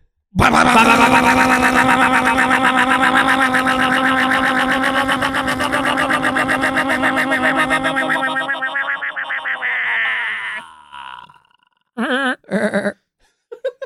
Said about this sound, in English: that was your bunker alarm